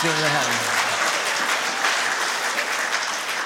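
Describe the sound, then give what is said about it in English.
A church crowd at a Sunday Advent service applauds the Apex grade 6, 7 and 8 students staying in the room, with steady, dense clapping that stays fairly loud for several seconds, and a voice or two trails off underneath at the very start. “Yeah, let's give them a hand.”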